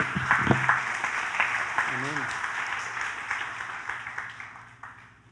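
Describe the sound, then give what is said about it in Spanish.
A church audience breaks into sustained applause for the Lord during a sermon, a dense wash of many hands clapping that gradually tapers off, with a few voices calling out briefly near the start. “Un aplauso al Señor.”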